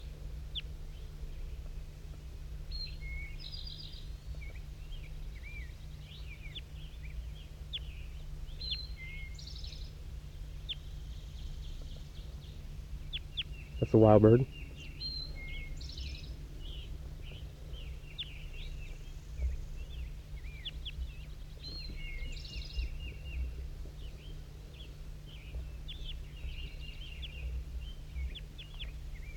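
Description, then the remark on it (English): Wild birds call outdoors: scattered high chirps and tweets come and go throughout, with one louder, harsher call bursting out midway over a steady low background rumble. “Wild bird.”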